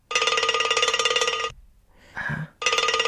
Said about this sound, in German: Kein Telefon, aber so eine Cowbell wird da geklingelt.